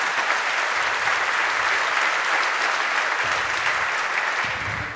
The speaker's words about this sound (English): This meant like probably days of extra labor, and they did it all for free for us, which was amazing. So yeah, give them a round of applause.